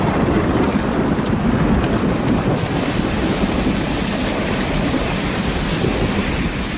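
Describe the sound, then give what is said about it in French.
A thunderstorm roars steadily, with heavy rain and gusting wind filling the whole span in a dense, loud wash of noise and low rumbling. No one speaks. The storm opens the France Inter programme La Terre au carré. “Nous sommes sous l'orage pour commencer ce club de la Terre au Carré.”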